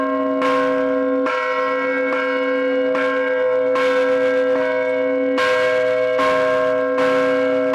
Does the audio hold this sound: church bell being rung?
yes